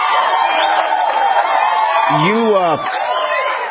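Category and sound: crowd, people yelling and cheering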